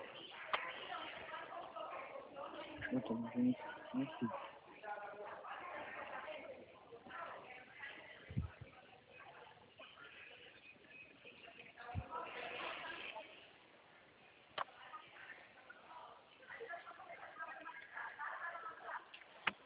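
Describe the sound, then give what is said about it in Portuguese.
Rapid, irregular key clicks from typing on a keyboard, fairly quiet, continuing in uneven bursts with a few sharper taps, while voices murmur in the background. “Só um minutinho que eu tô digitando, tá bom?”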